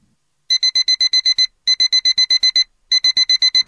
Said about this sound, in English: Fergus awoke to the sound of his alarm clock and hurriedly got dressed.